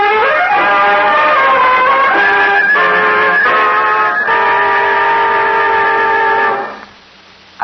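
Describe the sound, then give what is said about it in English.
An oncoming train's horn blares loud, one long sustained chord holding for about six seconds before cutting off abruptly into near silence. No voices. “Isn't it, that a man obsessed with the one thought of escape should find it under the wheels of an oncoming train?”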